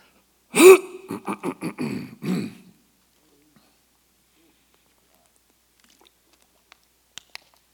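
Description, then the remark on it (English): Someone drinks water, with a quick series of about six throaty gulps and swallowing sounds, then a long quiet stretch broken only by a few faint clicks at the end. No talking. “So here's, let me get some water, y'all.”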